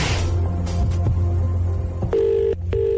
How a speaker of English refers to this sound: One ring. Two rings.